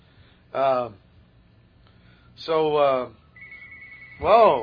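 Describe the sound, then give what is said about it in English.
A telephone rings briefly with a steady electronic tone, set between three short, loud, wavering vocal bursts. “he gets the phone mate going always during the show.”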